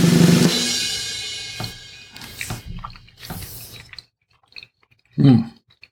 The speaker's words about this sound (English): It took me longer to chew the cheese.